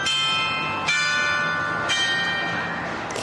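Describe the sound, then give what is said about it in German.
The mechanical carillon of the town hall in Franeker, Netherlands, plays the wedding march, each struck bell note ringing out with long overlapping harmonic tails, with no voices. “Das Glockenspiel des Rathauses, auch ein mechanisches Wunderwerk, lässt zu unserem Abschied passend den Hochzeitsmarsch erklingen.”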